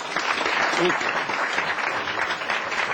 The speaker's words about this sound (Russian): Молодец, аплодисменты.